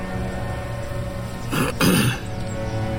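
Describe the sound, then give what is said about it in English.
A man clears his throat once, a short, gruff rasp lasting under a second, with only a faint steady hum before and after. “Clearing his throat, Charlie Danaher nodded his head”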